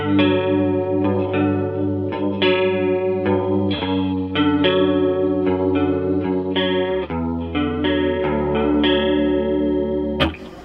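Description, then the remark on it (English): A clean electric guitar plays sustained chords through a chorus vibrato patch with a shimmering effect, steady and moderately loud, with no one talking. “And then, you know, I can quickly switch between, and then like my chorus patch will be something very clean like this.”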